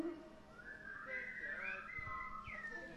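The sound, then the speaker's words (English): Someone whistles shakily, trying to whistle back the whistle part of a song, the pitch wobbling and sliding around without settling into a clear tune, an airy, faltering attempt at a melody over faint background noise. “You can't whistle either, can you?”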